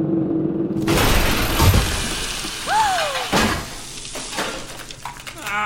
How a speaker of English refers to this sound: We're breaking through! After hours of dirt and sweat, the drill bursts through the floor of Vault 101 directly into the bashful blonde's room.